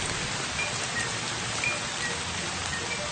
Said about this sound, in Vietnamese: Các bạn thân mến, các bạn có nghe thấy tiếng mưa không? Tối nay một cơn mưa bất chợt ào về Hà Nội.